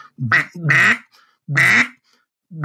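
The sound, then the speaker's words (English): A duck call blown loud, making single hen mallard quacks: a quick pair of nasal quacks, a pause, another single quack, then the start of one more, with silence between. “the first thing that I like to teach people how to make a duck call is a single quack”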